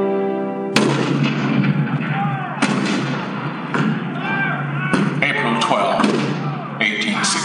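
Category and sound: sound effect, cannon fire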